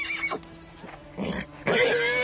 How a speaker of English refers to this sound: Don't do this to me. You've been doing this all morning. Oh, stupid horse! Come back here, you rotten nag!